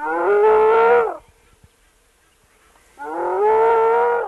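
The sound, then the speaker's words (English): A female spotted hyena named Pan, hidden in a hole in the ground near a river in Kenya, gives two loud, drawn-out distressed whoops, each about a second long with a rich, buzzy harmonic tone, separated by roughly two seconds of near silence. “The hyena was actually hidden in a hole in the ground, whooping pretty...”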